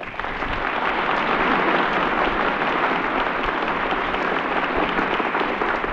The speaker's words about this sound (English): Thanks, folks, thanks. Boy, oh boy, it sure is hard to believe that applause is all for me instead of for some other orchestra leader who's taking a bow while I'm oiling up the slide on my old trombone.